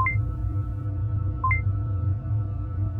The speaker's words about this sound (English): Why is this Pez dispenser beeping?